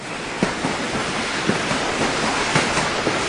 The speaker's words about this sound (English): Here comes the train. I hear it coming in.